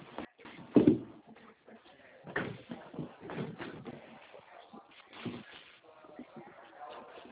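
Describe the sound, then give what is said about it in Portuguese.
A drawer slides open, followed by several seconds of irregular shuffling and clattering as its contents are rummaged through to fetch an item, with soft bumps and scrapes at an uneven pace. “favor, que eu vou pegar um aqui na gaveta, que eu achei que ele tinha uma, não tem.”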